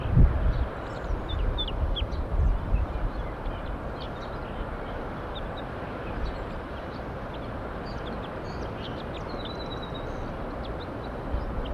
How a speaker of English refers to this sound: Couple birds, one bird just flew down and almost got caught in the net, circled right around the net. Wild bird.